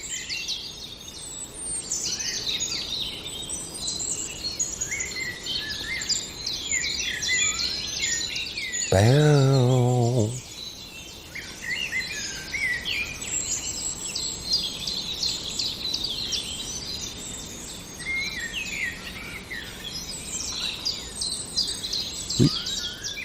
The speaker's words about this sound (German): Ich habe gehofft, dass sie noch ihr Konzert zum Besten geben. Da geht's los, hört hin. Die Amsel, aber ich glaube, er kommt gleich in Fahrt.